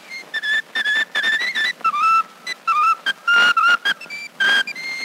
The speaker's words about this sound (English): what's the name of that tune you were whistling just now?